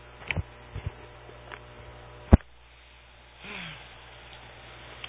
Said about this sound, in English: Excuse me, I had to cough there for a moment.